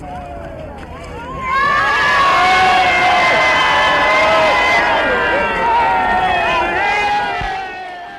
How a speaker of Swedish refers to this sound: I det hälsningsvrål som uppstämdes på järnvägsstationen var det omöjligt att fortsätta arbetet med mikrofonen.